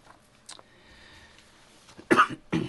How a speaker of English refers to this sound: Pardon the little bit of a cough.